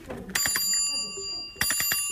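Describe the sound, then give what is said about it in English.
A traditional Cambridge bicycle bell at Ben Haywood Cycles rings twice in quick bursts of rapid dings, each leaving a bright metallic shimmer that lingers between them, fairly loud with nothing else going on. “That sounds like the traditional Cambridge bicycle bell, doesn't it?”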